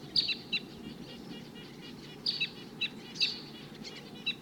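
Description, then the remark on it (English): Short, high tooping calls of wild birds come in scattered bursts, several sharp chirps around the start and a few more later, over a steady low rumble of background noise. “Sounds like there's another flock of the same call type around here somewhere.”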